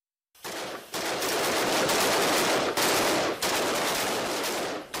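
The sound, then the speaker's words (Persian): Loud, sustained bursts of rapid automatic gunfire from police shooting practice, with a few brief breaks between volleys and no voices. “احمد سولا ده ها سال افراد پلیس را شیوه شلیک گلوله و نحوه مبارزه با دهشت افکنان آموزش داده است.”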